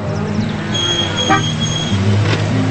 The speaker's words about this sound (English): Now a Ford pickup pulls in front of the bunkhouse.